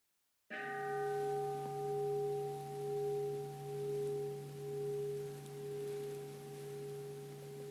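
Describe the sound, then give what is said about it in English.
A single meditation bell is struck and rings on alone with a low, steady hum, its tone gently wavering in slow pulses as the brighter overtones fade away. “I invite you to notice that millisecond that the bell enters the space of your awareness, noting it until the last sound of the bell passes through your awareness.”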